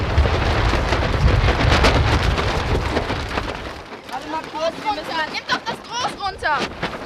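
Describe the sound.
Strong wind roars and buffets a sailboat's sail in a loud, rumbling rush for several seconds, then eases as people's voices come through over the quieter wind. Boys are sailing from their home beach on the Elbe at Wedel, Germany.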